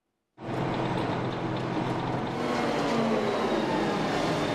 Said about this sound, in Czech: Aktuálně se nacházíme v části dvoukolejného tunelu, kde dochází k jeho větvení s budoucím odstavným tunelem.